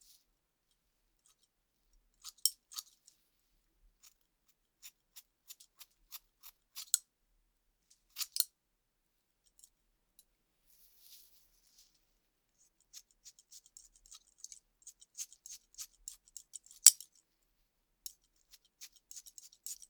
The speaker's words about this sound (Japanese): じゃあ、髪の量が多いところから切っていくね。